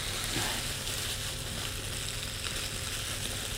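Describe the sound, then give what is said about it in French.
A dense, unbroken hiss of heavy rain pours steadily for a few seconds, even in loudness, with no voices or other sounds breaking through. “Ça fait carrément grosse pluie.”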